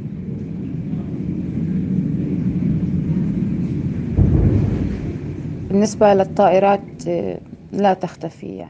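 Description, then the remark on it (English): A deep, continuous rumble of bomb explosions in Gaza rolls on for several seconds, swelling into one heavier boom partway through, before agitated voices break out over the fading roar. “All the while, the bombs continue.”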